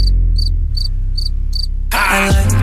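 A cricket chirps in five evenly spaced, high trilling bursts over a low musical drone, then a loud, dense music track suddenly takes over.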